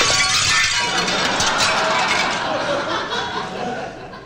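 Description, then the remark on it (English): A football smashes loudly through the glass of the President McKinley French windows in the White House, followed by several seconds of shards clattering and tinkling down, the bright crunching noise fading slightly at the end. “This football, which has just come crashing through the $5,000 President McKinley French windows”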